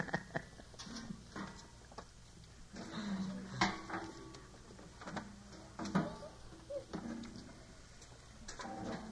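Chairs being shifted about and moved out from under a covered spot, with irregular scrapes, knocks and clunks over a faint, steady background hiss, with no talking.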